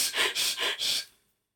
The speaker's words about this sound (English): So now I radiate out to you these energies. Breathe them in. No huffing and no puffing.